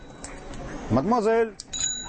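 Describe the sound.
The bell of a Giant bicycle rings with bright, sustained metallic tones on Rue Mouffetard, warning a woman in headphones, while a voice calls out in a rising and falling sing-song over street noise.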